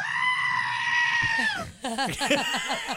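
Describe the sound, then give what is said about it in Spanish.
A goat lets out a long, loud, high-pitched scream that holds steady for over a second, then breaks off into a series of shorter wavering bleats. “Ese es el de la chiva, no sea baboso.”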